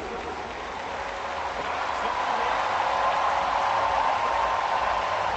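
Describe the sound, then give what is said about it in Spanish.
A large crowd applauds and cheers in a sustained, dense ovation for tennis player Rafael Nadal as he comes out onto the court, a steady roar of clapping that swells slightly and holds loud throughout. “Esa es la ovación que se lleva Rafa Nadal en esta Arturas.”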